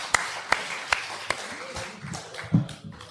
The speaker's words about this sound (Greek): Έλα ένα χειροκρότημα, έναν παιχταρά, δάμε.